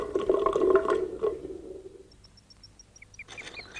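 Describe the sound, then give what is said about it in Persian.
Water gurgles and drains noisily for about two seconds as Mat empties a bathtub in a yard, then fades out, leaving near-quiet with a series of thin, high chirps and a few whistling calls. “مت آب وانو خالی میکنه.”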